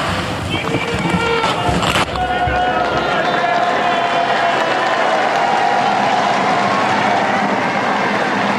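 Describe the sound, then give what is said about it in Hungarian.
A large crowd of pilgrims applauds in St. Peter's Square, thanking Pope Francis for his blessing and teaching at an audience. The clapping is dense and steady and holds loud for the whole stretch, with crowd voices and cheers mixed into the roar. “A megszokott köszöntés, illetve taps, az nem maradt el ma sem.”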